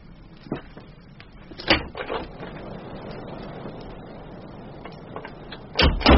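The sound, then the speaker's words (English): A door latch clacks down a few times, sharp knocks separated by a quiet, steady background hiss, with a louder rattling clatter at the very end. “I could have sworn the latch fell.”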